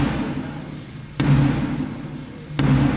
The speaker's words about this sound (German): klopfte eine Frau, Sarah Clark, als Black Rod an die Tür des Unterhauses